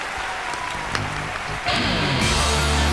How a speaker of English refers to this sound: Forum's choice for best of 2011 is a title I can pronounce. Steins Gate. Oh, yes. The roaring applause.